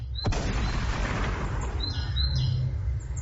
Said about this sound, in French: C'était donc les oiseaux en direct live de mon appartement.